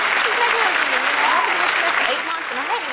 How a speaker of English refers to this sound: I hit that applause on accident, but it was good. I hit the applause on accident.